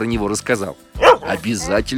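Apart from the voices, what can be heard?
german shepherd dog barking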